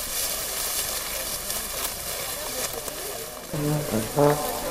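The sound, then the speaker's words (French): Footsteps crunch over very dry straw and hay covering the ground of a recently mown field on a very hot day, a dense, steady crackle and rustle throughout, with a brief low droning tone rising over it near the end. “Ce que vous entendez là, ce sont des bruits de pas sur le tapis de paille ultra sèche qui jonche le sol du champ.”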